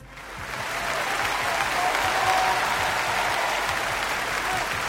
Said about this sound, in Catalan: Aquest aplaudiment també per als del Mas d'en Clos de Móra d'Ebre per aquest premi.